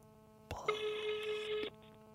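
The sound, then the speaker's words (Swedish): A single steady ringback tone from an outgoing phone call to a man, which then goes to Telenor voicemail, sounds for about a second, preceded by a sharp click, clear, with a faint electrical hum underneath and no voices. “Han kommer ju bli lackad att jag ringer honom och frågar detta.”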